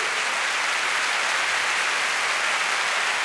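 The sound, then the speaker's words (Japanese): A large audience claps steadily for the Slovak National Radio Symphony Orchestra, a dense, sustained wash of applause at full strength throughout, with no voices breaking through. “大きな拍手をお願いします。”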